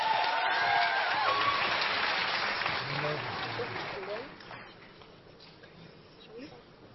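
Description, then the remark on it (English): A burst of audience applause for a band and a choir as they open the show, dense and loud at first, then thinning and fading over several seconds, with faint voices murmuring underneath as it dies away. “Round of applause, please.”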